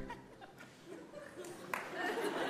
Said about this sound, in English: Thanks for that one clap, everyone.